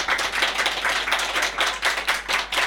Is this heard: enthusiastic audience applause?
yes